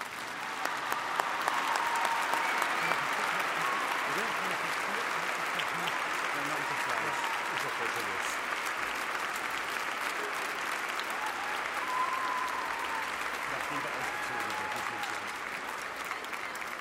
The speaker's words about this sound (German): Jetzt dürfen wir auch klatschen.